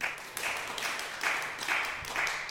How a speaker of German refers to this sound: Kurz mal Frage an das Publikum. Also wieder, ihr wisst, Klatschbarometer. Wisst ihr, was Mutterkorn ist? Einmal bitte klatschen.